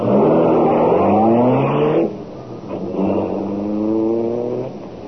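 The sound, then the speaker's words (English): The Black Beauty, the Green Hornet's car, roars as it accelerates away. Its pitch climbs steadily, dips briefly at a gear change, then rises again. Loud and continuous, with no voices. “Step on it. Get the Black Beauty out of here.”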